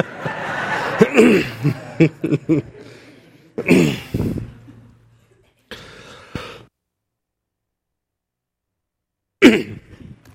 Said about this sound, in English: Coughed up a lung, got that checked off.